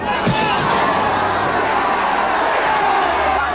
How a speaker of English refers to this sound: An angry mob of gray people is gathered around the soda shop.